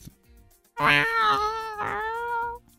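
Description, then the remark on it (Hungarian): A person imitates a hungry cat with one long, drawn-out meow, rising and then wavering in a second swell. The voice is fairly loud, with no other talk. “Na, most egy éheset, nyávog egy éheset, gyere, mutat.”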